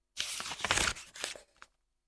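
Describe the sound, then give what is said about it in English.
A papery rustle as a page of the picture book The Mean Giant is flipped back to the beginning, a dry, crisp swish lasting about a second and a half with a few crinkly peaks, then silence. No one speaks. “Let's read the book again. Turn to the beginning.”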